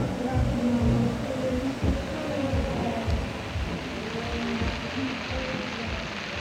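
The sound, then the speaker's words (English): Steady rain hisses continuously at moderate loudness, with a low rumble and a faint murmur of indistinct voices beneath it, at Wakarusa on its first day. “Fitting that you have rain ending this audio montage from the first day of Wakarusa.”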